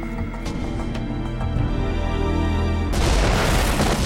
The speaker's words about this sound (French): La déflagration se propage à l'arrière de l'appareil. L'explosion a détruit une partie du plancher de l'avion et a fait sauter tous les passagers qui se trouvaient dans cette zone. Une boule de feu s'est propagée à l'intérieur de l'appareil.